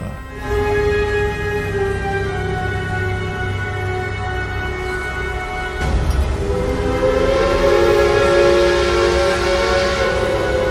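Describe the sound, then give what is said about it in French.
A steam train's whistle sounds loud and sustained, a harmonic shrill tone running continuously with hissing escaping steam and rumbling machinery beneath, shifting pitch midway as the blast continues. “Nos concitoyens apprécient notamment le sifflement de la vapeur qui s'échappe, les petites énergies de engrenage.”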